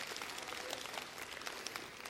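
Many hands clapping together in a dense, steady burst of applause that stays even for a couple of seconds, with no voices.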